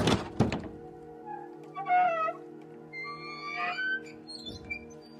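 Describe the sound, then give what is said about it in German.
A heavy entrance door of a lighthouse is opened: two loud wooden thunks, then slow, drawn-out creaking and squealing hinges that rise and bend in pitch over a low hum, with no one speaking. “erreichte er die massive Eingangstür des Leuchtturms. Sie war fest verschlossen, aber nicht verriegelt.”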